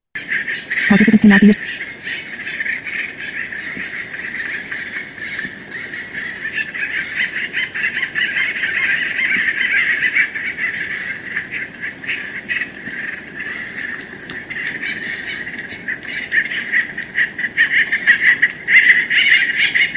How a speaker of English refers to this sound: So let's take a listen to a colony of acorn woodpeckers.